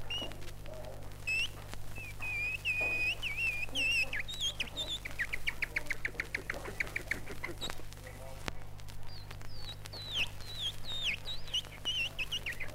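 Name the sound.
songbirds singing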